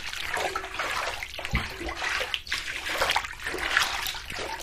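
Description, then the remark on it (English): Running bath water recorded with a stereo microphone held right next to the stream: a dense, steady rush with splashing and gurgling fluctuations, heard close up. No voices. “It's kind of cool, because I can put this thing, because I don't care about it, I can put it right next to the water and just sort of go...”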